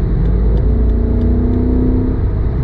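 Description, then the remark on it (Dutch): The engine of an automatic car accelerates steadily while being driven, heard from inside the cabin, its rising tone sliding upward under a constant low road rumble, loud with no one talking. “Hey, wel echt hard dat ik even in jouw auto mag rijden, man.”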